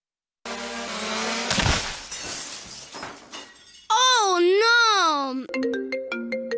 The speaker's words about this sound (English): What was that? Please hold. My drone hit the window. What have I told you about flying that thing in the house?